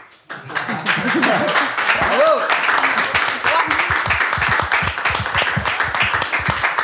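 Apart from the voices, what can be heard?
audience applauding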